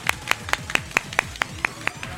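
A small audience of eight people claps outdoors at the Japan Weekend at the Palau Sant Jordi, in a quick, steady rhythm, about ten sharp claps evenly spaced, moderately loud, with a faint murmur underneath.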